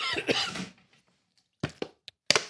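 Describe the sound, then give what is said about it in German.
A short, muffled cough, then a pause and a few quick gulping and clicking noises as water is sipped from a water bottle to stifle the cough. “Muss husten und erstickt den Husten durch einen Schluck aus der Wasserflasche.”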